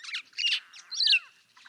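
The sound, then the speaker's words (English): Several quick, bright African starling calls in bursts: chattering notes, a rising whistle and a scratchy squawk, clear, with no one speaking. “A wonderland of starlings.”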